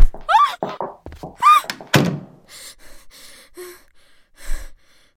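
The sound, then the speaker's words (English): A door slams shut with a solid thunk, followed by a short run of rattling, clicking latch sounds as it is locked, and a final soft bump. Brief gasping breaths come just before the slam. “You locked the door?”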